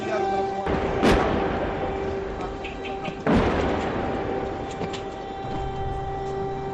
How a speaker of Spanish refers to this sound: Sirenas, antiaéreas, bombardeos. Costaba creerse que aquellas imágenes y sonidos fueran reales. Comenzaba la guerra de Ucrania y nos pillaba mucho más cerca que de costumbre.